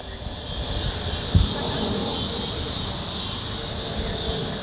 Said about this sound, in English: All right, so wait, everyone just lay out. I just want to have the cicada sound for a few seconds.